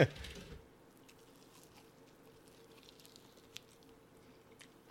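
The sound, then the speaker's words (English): Quiet chewing of a chicken wing: soft, wet squishing and small clicks that continue steadily after a brief loud burst at the start, with no talking. “I'm not doing the whole wing. Yeah. It's too much chewing.”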